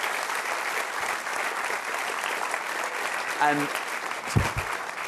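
crowd, audience applause

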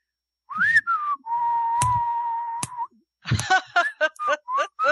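human body sound, person whistling a tune

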